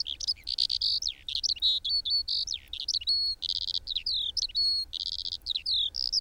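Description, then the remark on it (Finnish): A skylark pours out a continuous, rapid stream of high warbling, trills and whistles, bright and unbroken, against a quiet open background with no voices. “Minulle tulee ensimmäiseksi mieleen kiuru, eli leivo, joka riemullisesti laulaen kohoaa taivaan sineen.”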